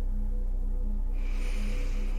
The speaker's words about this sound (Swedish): Och med hjälp av andetaget så kan vi hjälpa oss att släppa oro och ovälkomna tankar. Så om du andas in genom näsan.